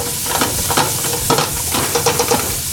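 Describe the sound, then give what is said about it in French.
Carrots cook gently in a saucepan over lowered heat with a little salt added, a steady soft sizzle running throughout, broken by scattered light clinks and scrapes from stirring, with no one talking. “Je veux juste les faire un peu cuire. Je rajoute un petit peu de sel dans la casserole.”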